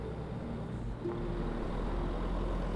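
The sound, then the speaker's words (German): A bus's engine rumbles steadily as the bus approaches and slows down, a deep low drone with a faint humming tone. No one speaks. “Während der Bus näher kommt, wird er immer langsamer.”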